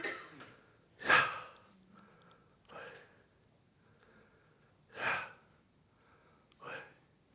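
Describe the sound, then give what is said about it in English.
A person breathes deliberately and audibly, demonstrating the Hebrew name YHWH pronounced without vowels: about four airy, voiceless breaths, one loud and sharp, the others softer, spaced a second or two apart with quiet gaps. “When pronounced without vowels, it sounds like breathing.”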